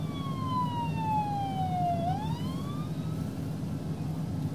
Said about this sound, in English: Looks like the ambulance is heading down.